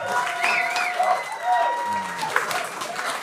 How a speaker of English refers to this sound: You guys are clapping.